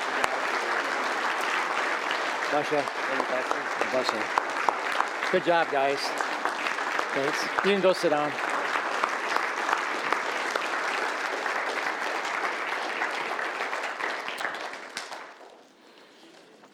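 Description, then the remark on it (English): An audience applauds steadily for about fifteen seconds to honor people, a dense, sustained round of clapping, while a man speaks briefly over it; the applause then fades out near the end. “So let's give them a hand of applause and honor them today.”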